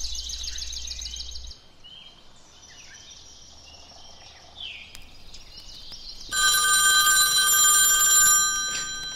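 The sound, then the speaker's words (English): A telephone rings in short warbling bursts during an outgoing phone call, clear, followed by a louder, brighter electronic ringing toward the end, with no one speaking. “I really need to make a phone call.”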